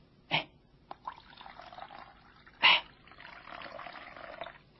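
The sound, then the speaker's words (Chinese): Water is poured into a basin by Jesus before washing the disciples' feet. There are a couple of brief splashy bursts, then a steady, moderately loud stream of pouring water lasting a couple of seconds, with no voices. “他站起来了，脱去了外衣，又倒水在盆里。”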